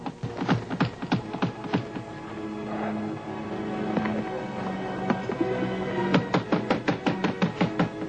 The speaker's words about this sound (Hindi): दरवाजा तोड़ डाला है।